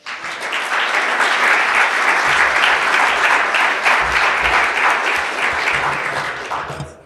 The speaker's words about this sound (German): Dein Applaus.